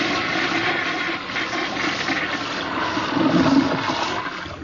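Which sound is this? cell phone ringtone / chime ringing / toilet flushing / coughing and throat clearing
toilet flushing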